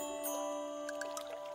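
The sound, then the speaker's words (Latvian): Soft, steady flowing river water with gentle trickling and a few small bubbling gurgles near the end, fairly quiet and continuous, with no voices. “un burbuļo, grib man par kāju kaut ko pastāstīt.”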